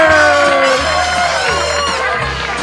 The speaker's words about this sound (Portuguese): Mas tem palmas. Palmas! É!